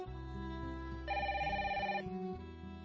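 A telephone rings once with an incoming call from the mother, a bright tonal burst about a second long over a steady sustained low musical backdrop. No voices are heard.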